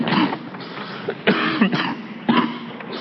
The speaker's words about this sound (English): And I hope you will not mind too much the frequent coughing interruptions, as many of you also have been suffering with colds and flus, so I'm sure you're quite used to this kind of thing.